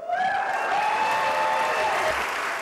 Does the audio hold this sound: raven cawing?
no